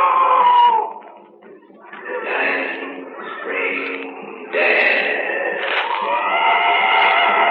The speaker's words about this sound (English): Look, the wounded animal screaming out.